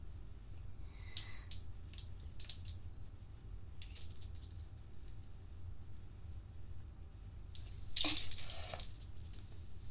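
Someone fishes a dropped pen that fell deep into a narrow gap: a few scattered bursts of scraping and clicking, with a louder rummaging clatter near the end, over a steady low hum.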